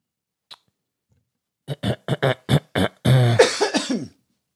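A man clears his throat up close: a quick run of six short, rough bursts, then a longer voiced, gravelly rumble that trails off. No one speaks.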